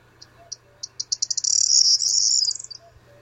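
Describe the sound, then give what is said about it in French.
A corn bunting (Bruant proyer) sings its high, thin signature song phrase: a few spaced notes that quicken into a dense, buzzy trill lasting about a second before cutting off, clear against a quiet background. “C'est un oiseau qui fait toujours cette formule-là. C'est vraiment sa signature.”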